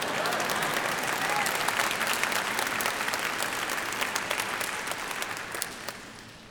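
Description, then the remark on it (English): An audience breaks into sustained applause, a dense wash of many hands clapping at steady loudness for several seconds before tapering slightly at the end. “Yeah, we could have clapped there.”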